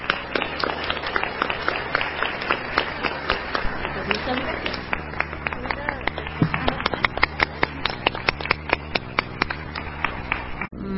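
An audience claps steadily for about eleven seconds in recognition of the INE staff, a dense, even stream of overlapping sharp claps at a fairly constant loudness, growing slightly more scattered toward the end.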